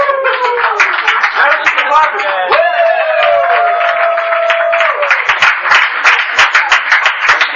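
A crowd applauds steadily at Lincoln's Ocean City, with dense overlapping claps throughout and a sustained whistle or whoop rising above the clapping partway through.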